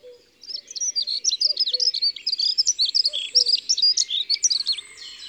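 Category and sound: bird, dunnock song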